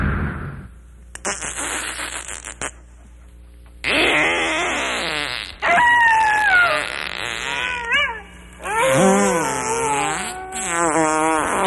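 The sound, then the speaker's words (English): A drawn-out series of loud, buzzy farts after eating chili the night before, sputtering at first and then stretching into long, wavering blasts whose pitch wobbles up and down, with no talking. “Matter of fact, I just happened to have had some chili last night, and I think it's beginning to do its job right now.”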